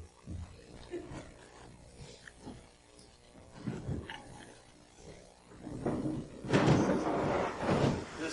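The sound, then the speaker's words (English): A door opens, then a big green storage container scrapes and slides across the floor in a loud, grinding rush toward the end, with muffled knocks and thumps before it. No one speaks. “There's a big green storage container just on the other side of that door over there. Can you get it for me?”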